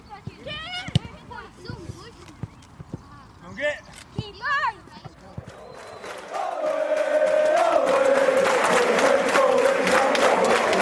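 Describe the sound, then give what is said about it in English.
Scattered shouts and calls from a football crowd, with sharp bursts and yelled voices, building after a few seconds into a loud, sustained roar of cheering and chanting. “Do you listen to the crowd, or do you hear them, or do you know what they're saying?”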